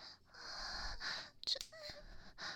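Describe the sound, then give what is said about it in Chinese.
Heavy, rapid panting breaths repeat in quick succession, breathy and airy, with a brief sharp catch partway through and no talking. “喘气，还有其他，好害羞啊！”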